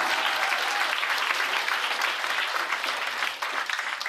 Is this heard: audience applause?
yes